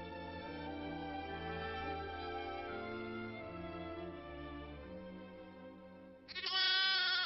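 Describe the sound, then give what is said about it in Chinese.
A lamb being carried off by a lion lets out a loud, shrill, wavering bleat near the end, following several seconds of steady, droning tones with no voices. “哎呀，不好了，狮子，它抓走了我的一只小羊啊！”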